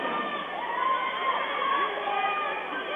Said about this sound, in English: And you might hear a little hooting and hollering from the Elm Creek fans,